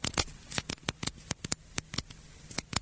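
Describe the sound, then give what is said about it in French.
A retractable pen is clicked over and over in quick, uneven bursts, each sharp little snap crisp, with no voices, just quiet room tone between the clicks. “T'es dans un meeting, t'essaies de te concentrer, puis quelqu'un clique avec ça, ton stylo.”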